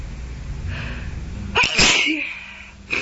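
A person with a cold lets out a big, forceful sneeze after a brief sharp intake, and another sneeze begins right at the end, with no talking.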